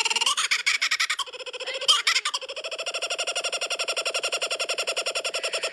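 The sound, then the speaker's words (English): A loud bird call that sounds like laughing, a fast, continuous chain of harsh, rhythmic cackling notes rising and falling over about six seconds, without any talking. “Is the bird actually like laughing?”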